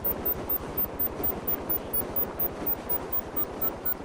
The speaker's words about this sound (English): Ooh, but I almost got killed by my own helicopter. Oh, the helicopter is still the thingy is still spinning.